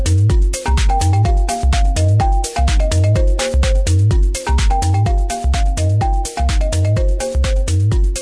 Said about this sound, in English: Isn't that the default ringtone on Verizon cell phones? Catchy. Sounds like a ringtone. It does kind of sound like on a an old cell phone. Maybe that's why they were downloading it.